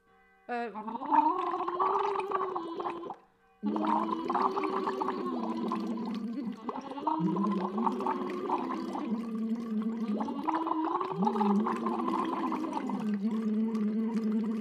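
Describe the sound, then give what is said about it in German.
Bubbly blowing through water with loose lips and puffed cheeks, a voiced hum gliding up and down in pitch beneath steady gurgling, continuous apart from one brief pause near the start; demonstrated on camera as a relaxation exercise to loosen the cheeks, lips and facial tissue. “Deshalb guck immer, dass die Wangen mitblubbern, dass die Lippen locker sind”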